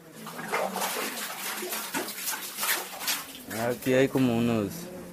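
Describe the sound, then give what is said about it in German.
A light bucket of water is hauled up from a newly dug well, with steady splashing and sloshing, followed near the end by loud voices or calls. “Es ist leicht, Wasser raufzuholen.”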